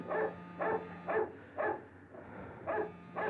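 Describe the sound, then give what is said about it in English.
A dog named Queenie barks five times in short, sharp bursts, a quick run of four followed by a pause and one more, over a faint steady background hum. “Oh, shut up, Queenie. Be quiet, will you?”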